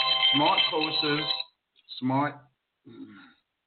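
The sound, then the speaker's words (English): A phone ringtone from an incoming call plays during a broadcast of a talk show, in three bursts: a long, tonal melodic phrase, then two shorter snatches after brief pauses. It is fairly loud, with no talking over it. “Somebody keeps calling me on my phone.”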